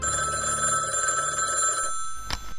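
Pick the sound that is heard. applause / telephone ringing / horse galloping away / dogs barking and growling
telephone ringing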